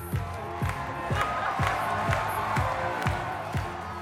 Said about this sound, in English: That cheering you hear is for Elon Musk. He's dancing on stage at the opening of Tesla's Chinese factory, Giga Shanghai, in 2020. His dance moves are a little awkward